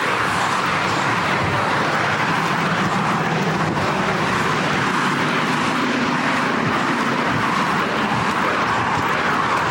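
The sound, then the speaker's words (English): Passing cars create a continuous, steady traffic roar, a broad rushing hiss with a low rumble underneath that holds fairly loud for the whole stretch, with no voices. “I don't know how well you can hear me with these cars.”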